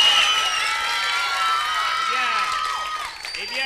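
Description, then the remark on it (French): A crowd applauds and cheers a contestant who has just sung, a dense wash of clapping with whoops and shouted voices rising and falling on top, loud throughout. “Eh bien, je vous demande de l'applaudir très très très très très fort.”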